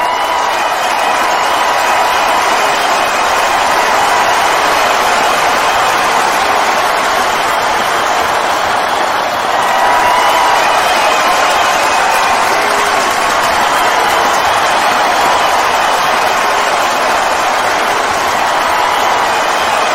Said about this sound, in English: I'm going to play the crowd cheering again for ZZ Bot. Here they go.